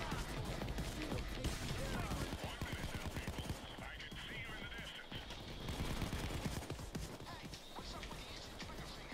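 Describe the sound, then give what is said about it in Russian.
Rapid automatic rifle fire crackles in dense, sustained bursts from an action shooter video game, loud, with a busy layer of battle noise underneath and a few brief lulls between volleys. “Совершенно другая игрушка. Боевик, стрельба.”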